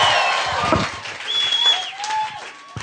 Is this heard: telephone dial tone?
no